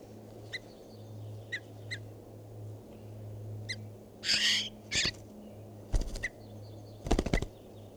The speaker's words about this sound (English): It's recording. This is bird 519.